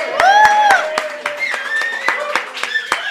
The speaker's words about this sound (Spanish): Aplausos, hijos de...